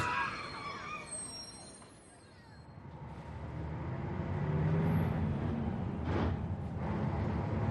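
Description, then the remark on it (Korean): A steady low engine rumble and road noise fill a moving city bus, with passing traffic and a faint, indistinct murmur of voices; a brief high squeal rises near the start. “버스에서 나이 지긋한 어르신이 내게 자리를 양보하신다.”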